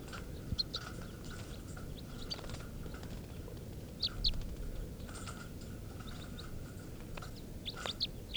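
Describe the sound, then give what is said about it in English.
Repeated short, high-pitched begging calls of captive bird number 432 come in irregular bursts, some sharp and rising, over a steady low rumble and faint clicking noises. “And this is begging of bird 432.”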